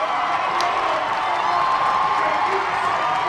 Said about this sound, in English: And when he approached the finish line, the cheers became almost deafening.